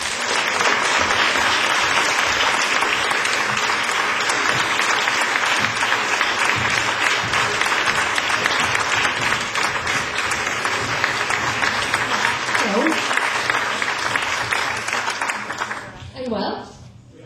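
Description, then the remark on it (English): A crowd claps steadily for about sixteen seconds for a female performer and her band, the applause loud, dense and sustained, then fading as a voice briefly speaks at the end. “Would you please make a big noise”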